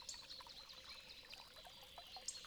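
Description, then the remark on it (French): A river glimmering under trees a little below a narrowing path murmurs steadily, a soft continuous rush of flowing water with small bright trickles and splashes rising and falling over it, no voices present. “Le chemin se rétrécit peu à peu, et petit à petit, vous entendez un murmure. Celui d'une rivière que vous apercevez scintiller sous les arbres, un peu plus bas.”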